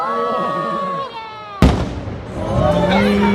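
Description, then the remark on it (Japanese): A single loud, booming burst of a large shaku-class firework shell, a yae-shin henka-giku type with a second firework at its center and several colors, explodes partway through, its deep rumble trailing off over a couple of seconds, with people's voices audible before and after. “これまあ尺クラスですね、これね。花火の真ん中にもう一個花火あったじゃないですか。”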